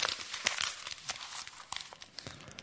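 A sheet of paper being crumpled into a ball, with a run of dense, crackling crinkles and sharp bursts over a few seconds, moderately loud, no voices.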